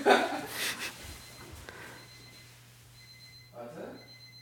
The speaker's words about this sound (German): Tobis Wecker klingelt